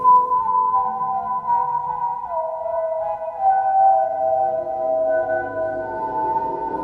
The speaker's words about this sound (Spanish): Silbaba la canción que tenía guardada desde hace mucho tiempo.